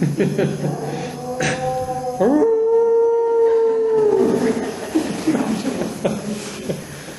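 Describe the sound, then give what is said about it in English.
A dog lets out a long, drawn-out howl that swoops up and holds steady for a couple of seconds, loud, with softer whining tones before and after. “Hello, doggy.”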